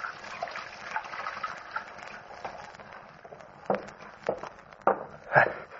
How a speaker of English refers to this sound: Then I went over to the washstand and started to wash.